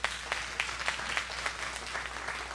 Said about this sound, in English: She made my lunch today. That's what y'all just clapped for. Thank you. Y'all are great.